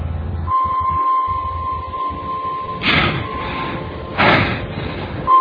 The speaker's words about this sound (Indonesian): Dari arah sampingku terdengar suara gebrakan pintu mobil ditutup.